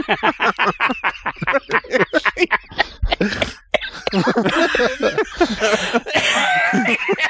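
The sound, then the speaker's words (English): Rapid, choppy bursts of coughing and throat clearing mixed with breathy laughter, fairly loud, settling into rougher, sustained hacking and wheezing toward the end. “Breathe. Cough switch.”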